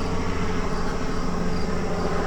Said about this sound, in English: Yep, that is Able One. That is our police helicopter flying over the interstate. You're looking for bad guys.